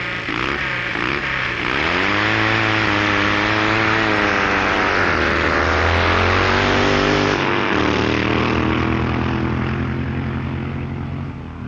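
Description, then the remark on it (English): A loud eight-cylinder drag racing engine roars continuously at the start of a first-round runoff, its pitch climbing and dipping as it revs hard, then settling into a steady throbbing drone. No voices are heard. “Curious eight-cylinder effect proclaims the next first-round runoff.”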